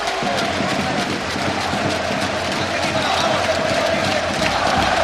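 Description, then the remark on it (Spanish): A basketball arena crowd of Real Madrid fans roars and cheers continuously for their team during a game against Partizan Belgrade, a loud, dense wash of voices that holds steady for the whole stretch, with scattered shouts and no single voice standing out. “Anima la afición del Real Madrid a su equipo de baloncesto, que está 7 abajo después de acabar la primera mitad, 16 abajo.”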